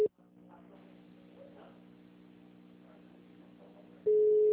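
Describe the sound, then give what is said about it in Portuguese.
A phone call to the bank rings out unanswered: a steady, mid-pitched ringback tone sounds briefly, gives way to about four seconds of low hum, then returns loudly and holds. “Nossa, ninguém atende no banco.”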